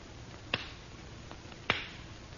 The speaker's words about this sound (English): I have only to clap my hands lightly, monsieur. Over the flame in the bowl.